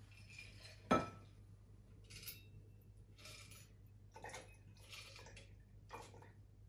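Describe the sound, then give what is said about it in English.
A sharp metallic clink against glass, then several short, splashy bursts of a martini being strained through a julep strainer and poured into an iced glass, over a low steady room hum. “Grab our julep strainer.”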